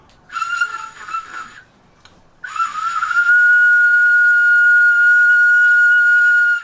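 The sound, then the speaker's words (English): A shrill, breathy whistle blown through a small snail shell sounds in two blasts: a wavering one of about a second, a brief pause, then a long steady tone held for several seconds, loud. “I will also first play this little snail for you. It looks very nice and it has a great tone.”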